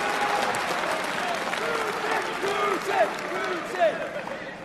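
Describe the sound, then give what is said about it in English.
A crowd applauds steadily for several seconds, a dense wash of clapping with scattered cheers and shouted voices rising above it, loud and continuous throughout, answering a speaker's call for a round of applause for Russia. “Who can we give a round of applause for Russia?”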